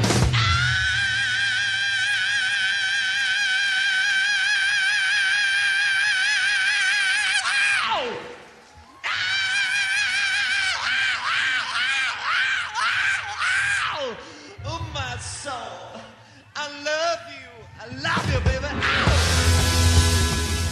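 A rock singer's scream, a long, loud, high sustained wail with wavering vibrato that cuts off abruptly, followed by bursts of warbling, shrieking vocal cries and a final intense scream.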